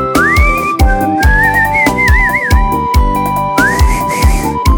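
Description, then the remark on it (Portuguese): A person whistles a gliding, wavering melody along to a song with a steady beat, the whistle clear, rising and bending in pitch across several phrases. “Eu só lembro de assobiar quando eu ouvo ela.”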